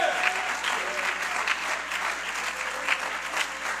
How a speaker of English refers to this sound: You ought to clap your hands that God is still God today.